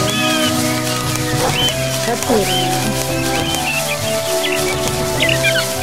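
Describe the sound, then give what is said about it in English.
Birds chirp and trill repeatedly in a forest setting, their scattered high calls overlapping above a steady, humming musical backdrop that continues throughout. “There's lots of birds, though.”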